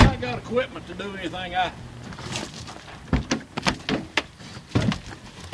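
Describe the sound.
A voice speaks briefly, then a run of sharp clunks and rustling thumps follows as people climb into a Jeep with its keys left in the ignition, ending with a door slamming shut.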